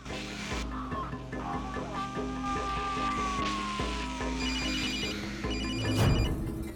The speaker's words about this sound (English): now holding her ringing mobile, whilst looking with confusion at the video camera on the passenger seat.